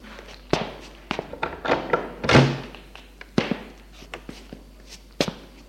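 door being opened

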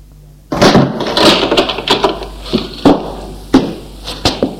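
door opening

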